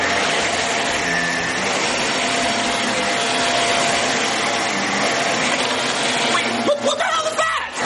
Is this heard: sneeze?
no